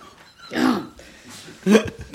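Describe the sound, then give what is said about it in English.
Two short, throaty burps, the second one sharper and louder, separated by a brief quiet pause with no talking. “You're … burping right now.”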